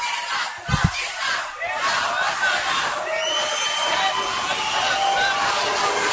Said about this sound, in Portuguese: Cerca de 50 manifestantes ficaram em um canto da galeria da Câmara de Maringá. Eles gritaram palavras de ordem contra o deputado federal Jair Bolsonaro, do PSC do Rio de Janeiro, que estava na cidade.